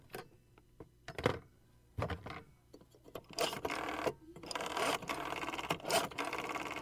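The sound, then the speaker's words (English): A rotary phone dial being turned and released: sharp mechanical clicks at first, then a fast, steady ratcheting whir as the dial spins back, repeated a few times with no talking. “It's a rotary phone. Yes, it is a rotary phone.”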